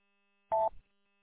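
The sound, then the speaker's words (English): A lunch timer alarm sounds as a single short electronic beep, a steady mid-pitched tone lasting a fraction of a second, followed by a brief crackle of noise before falling quiet. “My lunch timer just went off, so I got to go get the food.”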